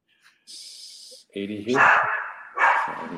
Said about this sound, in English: He's got crying babies. He's got barking dogs. So, yeah. A lot going on there. That sounds like the dog from the Sandlot.